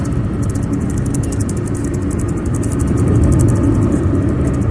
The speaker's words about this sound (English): And I just wanted him to just have a little listen to the engine. And I think he'll, I think he'll be eating his words.